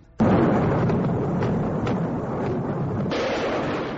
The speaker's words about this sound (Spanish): Eran los primeros bombardeos sobre Bagdad. Tormentas de munición asolaban objetivos militares y también provocaban el terror en la población.